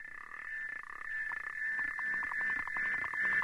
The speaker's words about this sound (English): Ah, the love song of the South African clawed frog. Probably not Grammy material, but Kermit might think otherwise.